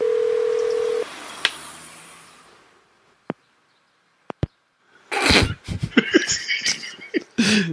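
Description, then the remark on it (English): A phone dial tone hums steadily for about a second as someone picks up and hangs up the phone, then a soft hiss fades out. A few sharp isolated clicks follow, and then a burst of rough, crackly handling noise. No one speaks. “He's picking up and hanging up now.”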